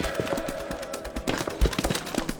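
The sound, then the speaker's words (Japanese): A homemade alarm device going off at a detached palace, a rapid, irregular string of loud cracking pops and rattling bursts that keeps sounding without pause, with no voices. “あれは私が作った警報装置だってば。離宮で何かあったんだ。”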